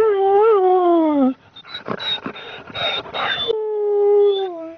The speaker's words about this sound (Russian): Вокруг собачка ее мальчик бегает, скулит.